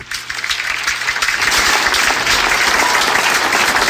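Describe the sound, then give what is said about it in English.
An applause sound effect played by a host in a studio to welcome a guest: sustained applause from a large crowd, a dense wash of many hands clapping that swells quickly and holds steady and loud throughout, with no talking over it. “Let me get my hand clapping going on over here.”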